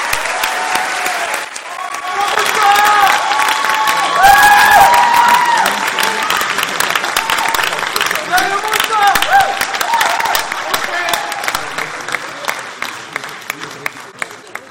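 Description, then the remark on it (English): A large audience at a Whitfield school event applauds students steadily for over ten seconds, dense clapping with some cheers and whoops mixed in, gradually thinning out toward the end. “And so I think they deserve a clap for what they did.”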